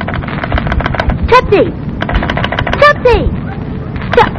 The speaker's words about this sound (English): Oh, dear. What happened, a Gracie? A short circuit. I guess she drooled on the wires.